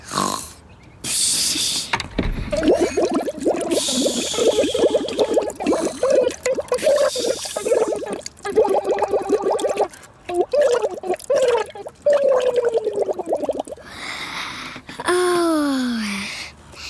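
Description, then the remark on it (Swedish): Steady watery bubbling from a goldfish that rises and falls in pitch like a little tune, carrying on for several seconds and ending with a few sliding, descending burbles. “Tack för den apiga sången, Bubbel. Det var hemligt bra bubblat.”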